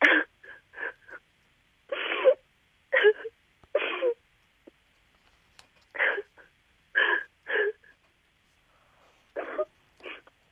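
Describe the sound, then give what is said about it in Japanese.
A mother crying and sobbing, with a string of short, shuddering, breathy bursts in an uneven rhythm and brief quiet gaps between them. “あのね、今のそのお母さんの涙とか泣いてる姿、このお子さん見たことありますか？”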